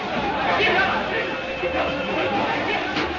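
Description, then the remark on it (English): A dense, steady wash of crowd chatter in a bar packed wall to wall, many overlapping voices blending into a constant murmur with no single speaker standing out, holding at an even level throughout. “Inside, the place is packed, wall to wall.”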